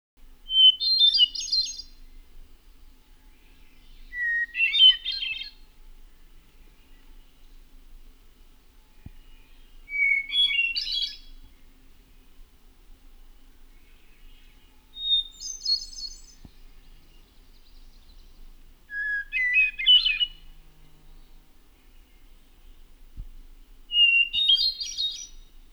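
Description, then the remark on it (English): A hermit thrush sings six separate flute-like phrases, each opening on a clear whistle before a rippling flourish, spaced about five seconds apart and shifting in pitch, over a quiet background. “The hermit thrush song has a clear introductory whistle followed by an ethereal flute-like song.”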